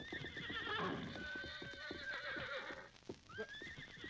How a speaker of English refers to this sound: look, there's a horse. Yeah, and coming this way. I don't see anyone in the saddle. Why, there isn't. Somehow that horse has lost its rider.